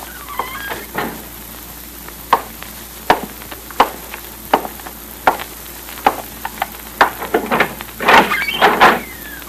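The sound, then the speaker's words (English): An office door is eased open and shut quietly with soft latch clicks and creaks, amid a string of small knocks and rustles, no voices. “Close the door quietly.”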